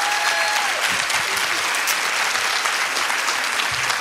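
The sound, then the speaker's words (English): Steady, dense clapping from a large audience of ladies fills the whole stretch at a strong, even level, a warm sustained round of applause for a speaker after her talk, without any voices standing out. “another warm, wonderful round of applause.”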